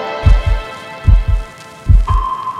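Three deep, thudding heartbeats, each a double lub-dub pulse, beat at a slow, steady pace over a sustained tonal hum, with a higher steady tone entering near the end.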